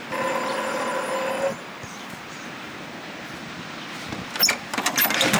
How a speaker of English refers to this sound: Okay, walking up. I'll ring the buzzer.